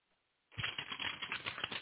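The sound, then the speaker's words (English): A moment of quiet, then paper being handled: a steady run of crisp rustling and crinkling with small irregular bursts, fairly loud, with no voices. “Here's a piece of paper, and here's my thing.”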